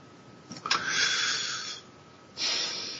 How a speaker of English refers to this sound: Hear you breathing.